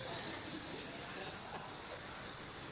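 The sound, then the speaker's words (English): A steady, breathy hiss like an angry snake, likely voiced by a person portraying Hiranyakashipu hissing like a trampled snake, holds for nearly three seconds at a fairly soft, even level with no talking. “He was like a snake that had just been trampled on. He began hiss.”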